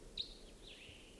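decoy birds calling

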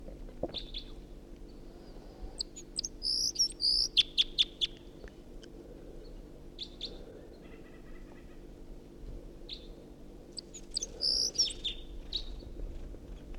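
wild bird singing

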